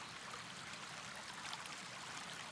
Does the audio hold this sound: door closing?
no